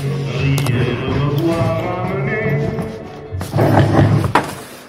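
A door is pushed closed and lands with a dull, fairly loud thud near the end, after a stretch of low rubbing and scraping.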